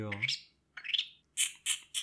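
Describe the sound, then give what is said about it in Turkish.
A person imitates a bird with a harmonic squawk, a rising chirp, then three sharp, shrill tweets in quick succession, loud, with no other sounds around. “Kuş sesi çıkarabilmem seni rahatsız mı ediyor lan?”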